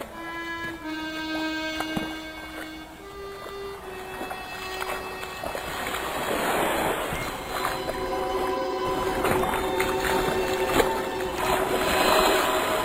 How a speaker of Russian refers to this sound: Дедушка, мне кажется, я слышу лодку». В первое мгновение дедушка ответил, что ничего не слышит, но вскоре, так же, как и он, различил ритмичные удары весел. «Да, это лодка». «Но она приближается, дедушка.